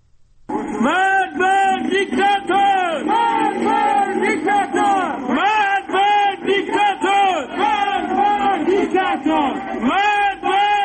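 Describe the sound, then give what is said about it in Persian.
A large crowd of protesters in Sanandaj, having blocked a street and lit fires on Monday evening, chants anti-government slogans against officials in unison, loud and steady, their voices rising and falling in a repeated rhythmic cadence for about ten seconds. “همچنین بنابر تصاویر دیگری شماری از معترضان در سنندج شامگاه دوشنبه با بستن خیابان و روشن کردن آتش شعارهای علیه مقامات حکومتی سر دادند.”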